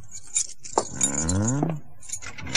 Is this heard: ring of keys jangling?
yes